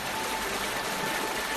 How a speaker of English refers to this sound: Elsewhere, water flows over rocks in a gurgling stream.